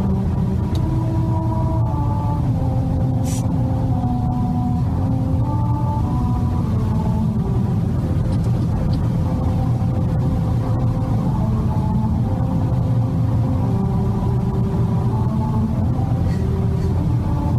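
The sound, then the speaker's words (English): From inside a moving car, a loud rumbling road tone shifts pitch step by step, tracing out the slow melody of America the Beautiful over steady engine and tire noise, as the car drives over a musical road at 45 miles per hour. “They play America the Beautiful when you drive over them at the precise speed of 45 miles per hour.”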